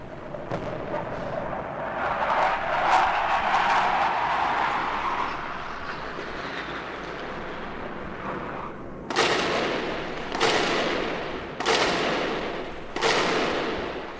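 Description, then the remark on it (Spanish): A loud, sweeping roar like a jet aircraft passing low fills the first half as warplanes attack the Palacio de la Moneda, followed by four heavy blasts of explosions or gunfire at a steady pace, each sharp and booming, with no voices. “Los aviones siguen atacando al Palacio de la Moneda.”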